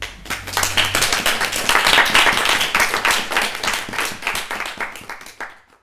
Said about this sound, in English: I'd like to thank my staff at 11/11, who, without their hard work and diligence, we would not have a journal to begin with. So I think a round of applause for them.